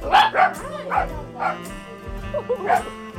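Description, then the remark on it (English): Two dachshunds bark in a rapid, yappy series of sharp, high barks, fairly loud, at a small trailer office behind a small restaurant in an industrial area by a river, with a low background hum throughout. “we make a beeline to the small trailer office behind the very small restaurant, and here we are greeted by two barking dachshunds”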